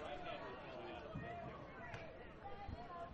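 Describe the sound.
A dense, steady wash of crowd chatter from the Ballers crowd fills a ballpark during a baseball game, almost 11 o'clock on the East Coast, with a postgame fireworks show to come. Many overlapping voices murmur at a constant level, with a few faint thumps and shouts rising out of the hubbub.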